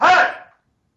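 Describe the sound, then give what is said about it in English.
A dog lets out one sharp, loud bark, a brief harmonic burst that fades out within half a second, followed by silence. “hold on, I'm about to have to get after these dogs.”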